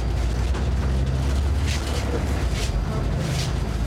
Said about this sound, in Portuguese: Mas ao mesmo tempo, a gente sacou logo que o barulho do ar só ia piorar o combo do barulho do motor com as péssimas condições de conservação da carcaça do ônibus.